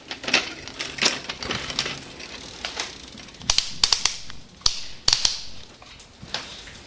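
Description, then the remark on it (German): A rusty bicycle chain in need of oil squeaks and clicks as the wheel is left to spin, a string of sharp, high metallic chirps and ticks in an uneven rhythm, with no talking. “Dann, was man auf alle Fall sieht, ist da die rostige Kette. Das hört man auch da, der Schrei nach Öl.”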